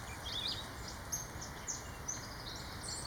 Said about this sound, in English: Catbird.